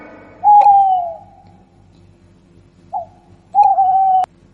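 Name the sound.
owl hooting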